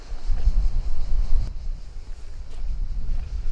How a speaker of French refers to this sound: Mais le vent souffle trop fort, je vais chercher un endroit plus abrité.